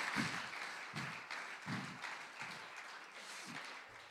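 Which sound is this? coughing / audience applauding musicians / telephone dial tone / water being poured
audience applauding musicians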